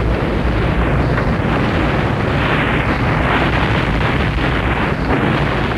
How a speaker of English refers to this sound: The group of townsmen are dwarfed by the colossal shower of snow.